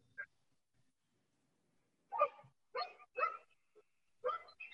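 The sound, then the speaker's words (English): A dog barks in a few short, sharp bursts after a brief quiet pause, the barks coming irregularly, with no talking. “Who let the dogs out?”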